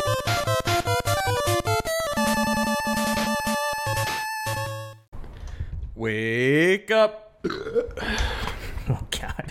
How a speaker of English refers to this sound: Probably sounds to people like that was like a bit you were planning, but that trust me, is sitting across from him, that burp just slipped out. That wasn't part of what was going on there to be funny.